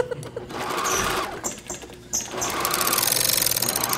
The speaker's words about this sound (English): So you'll do an alteration for someone and they'll try it on, they'll say nope, and you have to go back to the sewing machine?